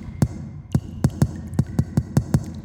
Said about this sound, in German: Es vergehen einige Minuten, bis ein Klopfen von der anderen Seite zu hören war.